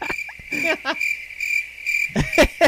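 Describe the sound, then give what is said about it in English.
Crickets chirp in a steady, high, unbroken trill throughout, with a few brief, lower rustling or vocal-sounding bursts breaking in near the start and end. “And that's why I'm going to play the cricket sounds again, because I had to look all over for those things, you know.”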